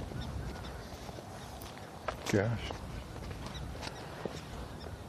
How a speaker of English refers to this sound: In the distance, I can hear the morning geese flying. See them, but I can hear them off in the distance.